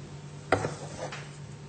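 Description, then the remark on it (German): Pieces of dark yellow-orange mango are dropped piece by piece into a blender jar with a sharp thunk, followed moments later by a softer second landing against the container, with no voices. “Dann geben wir die hier Stück für Stück in den Mixer.”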